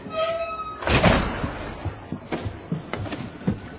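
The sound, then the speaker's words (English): A door opens with a loud rattling clunk, followed by a few softer thuds and knocks as it settles, with no voices. “Open the damn door already.”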